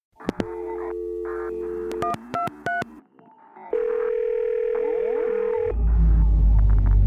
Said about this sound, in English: They're calling. The phone is ringing.